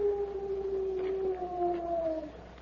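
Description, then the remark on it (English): A single long, drawn-out owl-like hoot imitated by a human voice as the Lone Ranger's signal to Tonto, steady and mid-pitched, sliding slightly lower before it fades, with no talking around it. “It's an owl outside.”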